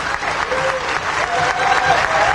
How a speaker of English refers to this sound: Audience members cheer at the Osage Casino in Ponca City as Jeffrey Standing Bear is sworn in as the new principal chief of the Osage Nation.